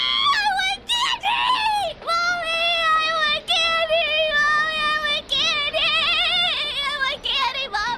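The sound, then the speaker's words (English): A young child screams and cries in a loud tantrum over being refused candy, drawn-out high-pitched wails broken only by quick gasping breaths, continuous for several seconds. “Have you ever seen a young child having a tantrum? Maybe they screamed and cried and threw themselves about, and they didn't listen to what anyone said.”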